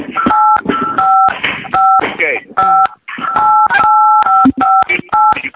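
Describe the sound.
Telephone keypad beeps sound again and again in short, uneven bursts, some held longer than others, loud while people talk over them.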